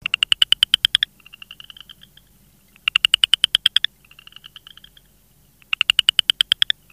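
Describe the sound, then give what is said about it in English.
A southern chorus frog gives three loud, rasping trills about every three seconds, each a quick run of clicky pulses, with a fainter higher trill from another frog filling the gaps. “The call sounds like a person running their fingers along a comb.”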